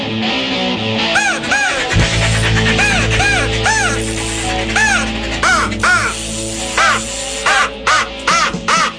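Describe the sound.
A rapid, continuous series of loud, harsh crow caws imitated with a crow call by a host of the Great Outdoor Radio Show, many in quick bursts and overlapping one another, with a low steady hum running underneath throughout.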